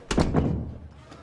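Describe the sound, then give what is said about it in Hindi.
A door slams shut with a heavy thud, followed by a second rattling impact as it settles, then a short fading rumble into quiet. “बाहर जाओ, दरवाजा बंद करो, बाहर जाओ।”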